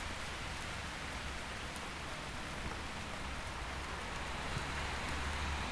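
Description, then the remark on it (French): Steady rain pours down in a dense, continuous hiss on a gloomy day, with drops pattering on a surface throughout. No voices, just the even wash of rainfall. “Ah, regardez, la pluie.”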